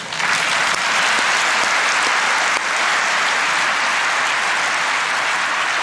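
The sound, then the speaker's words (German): Steady applause from a crowd, a dense crackle of many hands clapping at once that stays loud and even for several seconds with no voices on top. “So, das ist aus meiner Sicht mal ein Applaus wert.”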